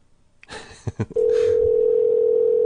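A few handling clicks and bumps, then a steady, loud ringing tone of a call to a Sprint home landline sounds through a handset, unbroken until the end, with no voices.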